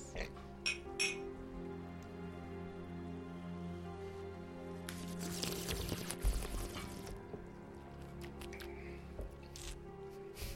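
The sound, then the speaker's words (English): A mojito sour ale is poured into a glass with a frothy, splashing rush lasting a couple of seconds, preceded by a few light clinks of glasses in a toast. “This one is a mojito sour ale, which is just a fantastic concept. We'll see how good it is. Cheers. Salud.”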